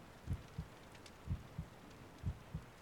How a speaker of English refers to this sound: Come then, let's snuggle up a bit. I'd like to hear your heartbeat and hear your breath.